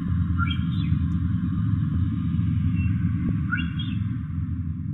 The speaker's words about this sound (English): And finally the whistle of the odontocetes, the orcas, moving around quite a bit in the south.